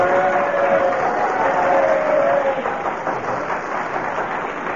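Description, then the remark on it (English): A crowd applauds loudly and steadily, a dense wash of clapping that holds for several seconds and eases slightly toward the end, with faint voices mixed into the noise. “That's the first time I've heard anybody promote himself and get a round of applause for it.”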